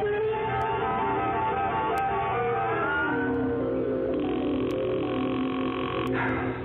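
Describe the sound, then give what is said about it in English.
A telephone rings repeatedly and goes unanswered, its steady buzzing tone rising over a dense, continuous background score through the second half. “Will you answer the phone?”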